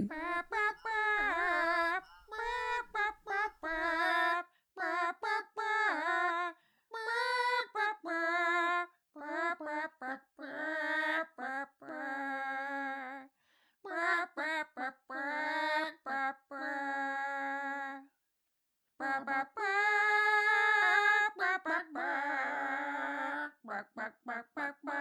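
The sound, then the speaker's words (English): Chicken clucks and squawks strung together into a sung melody of a rock song, with rapid bursts and longer held notes, loud with brief gaps between phrases, no talking. “Little Chickens, please could you sing … by …?”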